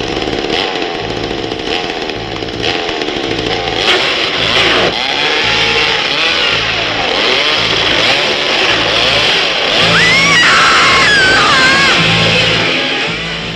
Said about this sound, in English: In the chainsaw, yeah. Yeah, revving up the chainsaw.